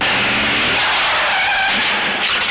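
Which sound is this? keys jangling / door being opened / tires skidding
tires skidding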